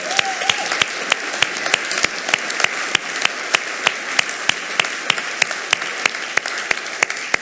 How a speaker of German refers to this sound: Wow, ja, ich finde das großartig, dass da Menschen sind, die jeden Sonntag in den Kinderräumen sind und unsere Kinderkirche schmeißen und sich da investieren und da sind. Und für die wollen wir nochmal einen ganz, ganz herzlichen Applaus geben.